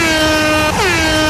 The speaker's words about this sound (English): We have a big klaxon sound effect, no expense spent. And when you hear that klaxon, which sounds like this, you can't really miss it. It's nice and subtle, do you know what I mean? Eh? That signals the start of the game.